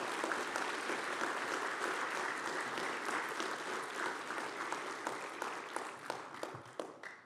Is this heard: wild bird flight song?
no